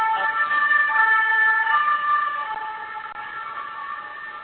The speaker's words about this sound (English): Usually I have the weird sirens. I don't know who that was, but usually that's my problem. Oh, that's Geneva. That's me in Geneva. Well, I'm like two blocks from the White House, so that's always me on conference calls here.